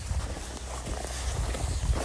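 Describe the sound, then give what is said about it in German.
Steady footsteps crunch at a walking pace along a small dirt footpath with no signs or waymarks, a companion leading the way, near Tangier in northern Morocco, with a low rumble of wind or movement underneath and no talking. “Mein Begleiter führt mich auf einen kleinen Trampelpfad, ganz ohne Schilder oder Wegmarkierungen.”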